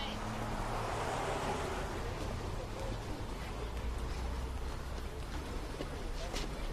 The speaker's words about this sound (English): It's pouring out. Did you bring an umbrella?